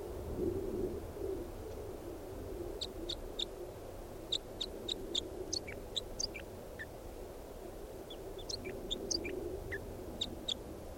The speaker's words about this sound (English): I don't know what happened to the wild bird, but bird 395 is in song. I pointed at him. What's that? Bird 395.